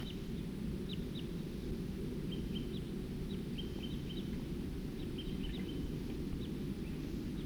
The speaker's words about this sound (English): Here comes some more type 2 birds.